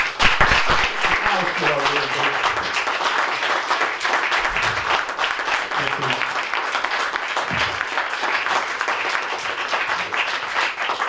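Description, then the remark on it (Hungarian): An audience applauds at the presentation of the 2021 Kanicai award, a dense wash of many hands clapping at an even, loud level throughout, with a few faint voices murmuring underneath early on. “Én nem tudok tapsolni, ezt a nagyből mikrofont kell fognom, elnézést kérek, de lélekben tapsolok.”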